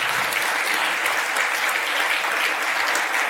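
A crowd at an event turns around and claps for the AV team at the back, a dense, even wash of many hands applauding at a fairly loud, constant level with no voices standing out.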